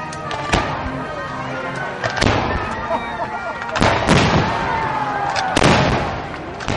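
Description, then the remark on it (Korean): Fireworks burst in a series of four loud, sharp booms spaced a couple of seconds apart, with crackling and whistling trails in between and a faint murmur of a crowd underneath, at a US Independence Day (July 4) celebration at Mount Vernon, home of the first US president. “독립전쟁 당시에 미합중국 군을 재현한 군사들의 행진부터 음악회와 만찬 그리고 불꽃놀이까지 이어졌는데요.”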